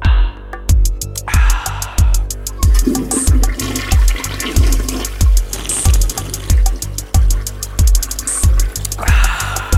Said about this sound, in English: Just have all of those like playing around. A toilet flushing.